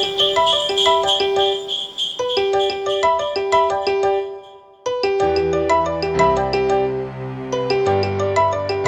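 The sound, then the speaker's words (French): A bright, marimba-like iPhone ringtone melody repeats in quick plucked notes, then a fuller musical arrangement built around it, with deeper bass swells, follows after a brief pause, loud, with no talking; music from an advertisement for a printer brand. “Il a pris la sonnerie d'une iPhone, hein, et il a brodé autour.”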